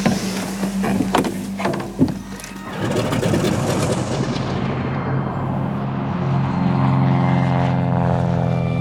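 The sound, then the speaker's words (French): A propeller airplane drones steadily, its engine tone shifting and settling into a sustained hum as it approaches to land at Barcelona, Spain, in early May 1945, with no voices present. “Début mai 1945, Pierre Laval s'apprête à atterrir à Barcelone.”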